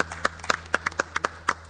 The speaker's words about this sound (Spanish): Solitos estamos aquí aplaudiendo en una sala enorme.